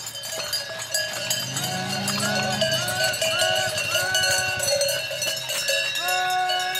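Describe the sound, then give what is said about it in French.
Dozens of cowbells clank and ring together in a dense, continuous jangle as a herd of about a hundred heifers leaves the alpine pasture for their farms during the Désalpe, a walk of under 10 km from the Combe à la Biche to the Bouéchet, the overlapping bells loud and steady throughout. “Une centaine de genisses ont quitté l'alpage pour regagner leur exploitation agricole.”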